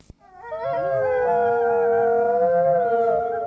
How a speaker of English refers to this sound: That's not like a werewolf. Those are actual wolves from a zoo.